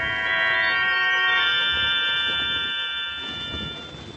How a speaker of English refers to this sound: I rang the doorbell. No answer.